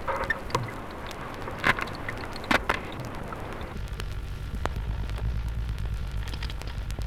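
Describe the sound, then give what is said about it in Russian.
Underwater recording of a stingray in an aquarium: a few sharp crunching snaps over steady watery hiss, then a low, continuous drumming rumble rises in the second half. No voices. “Морской кот хрустит и бубнит.”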